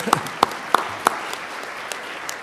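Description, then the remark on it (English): Brief, sparse applause thanking the participants of a meeting: a few sharp, evenly spaced claps stand out at first, then thin into faint scattered claps from a small audience, with no talking. “I want to thank all these people. I hope you will clap too.”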